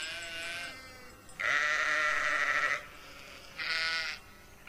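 Sheep and lambs bleat during lambing season on the Urošević farm, in overlapping calls, with one long, loud wavering bleat in the middle and a shorter, higher one after it, over a faint background murmur of other animals.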